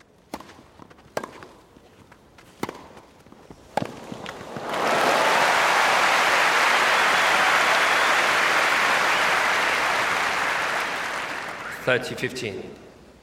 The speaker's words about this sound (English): So when you're in the middle of a cheering crowd, when it's been recorded well, the surround really involves you in the play, if you like. It's like actually being there.